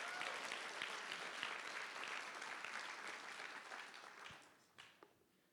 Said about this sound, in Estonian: Come on, teeme Jeesusele suure aplausi.